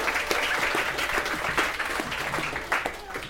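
A round of applause for a contestant: dense overlapping claps from a group that stay steady and fairly loud for about three seconds, with no one speaking over it.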